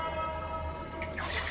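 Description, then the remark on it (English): Soft water splashing and trickling as someone splashes water on their face at a raised round pool with a glassy mosaic tile wall, with a few brighter splashes toward the end, set over a steady low hum. No one speaks. “Zaid splashed water on his face at a raised round pool, his eyes trained on his own reflection scattering within the colours of its glassy mosaic tile wall.”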